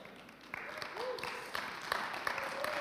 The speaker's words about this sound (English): It was like a not sure applause to begin with. I know how that goes.